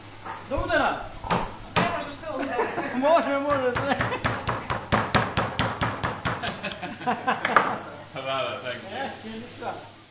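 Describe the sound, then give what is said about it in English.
A rapid series of sharp, regular thwacks as a large piece of meat is hammered at a local cevapi (Balkan kebab) shop where the day's meat is being prepared, repeating steadily for several seconds while people talk. “Oh, that's a big bit of meat. Oh yeah, I'm hoping he's going to bash it in a sec. You going to hammer it?”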